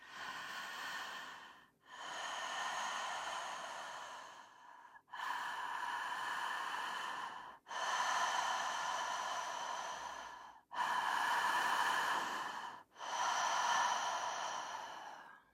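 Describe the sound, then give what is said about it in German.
Six slow breaths in and out through the mouth, each a long airy whoosh lasting about two seconds, alternating inhale and exhale with brief pauses between, no talking. “Gut, ich habe jetzt durch den Mund ein- und durch den Mund ausgeatmet.”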